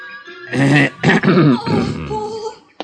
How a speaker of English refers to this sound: My cough must have been pretty frightening, because the boy took off around the house like a quarter horse.